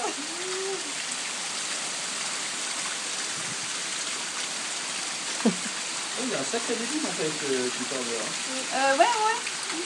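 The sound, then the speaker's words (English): Heavy rainwater from a torrential downpour outside pours steadily down a flight of stairs like a small waterfall, a dense, continuous rushing and splashing wash, with faint voices breaking through briefly near the end. “It's coming down the stairs in something of a... Yes. I mean, you can actually hear it coming down the stairs.”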